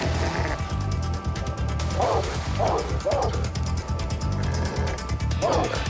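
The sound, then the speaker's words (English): A dog barks several times in short, irregular bursts over a loud, busy background of clattering noise, with the barks prominent. “Get the dog!”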